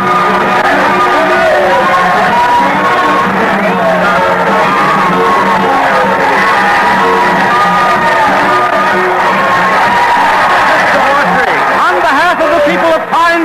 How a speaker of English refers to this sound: The crowd started yelling. The band started playing, and the mayor came forward to greet us.